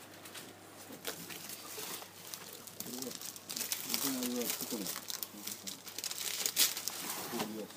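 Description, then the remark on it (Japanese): Sheets of copy paper rustle and crinkle in a steady stream of crisp handling noises, while people talk quietly in the background. “コピー用紙だ。”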